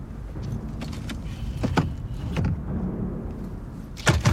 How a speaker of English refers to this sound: He opens the door and rolls out.